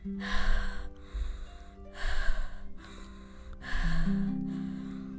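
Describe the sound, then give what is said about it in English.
Four strong, breathy exhalations blow out at a steady pace onto a newborn baby to warm him in the cold, each a soft rushing puff, with a faint low hum sustained underneath. “Why don't you breathe on him a bit? He's probably cold.”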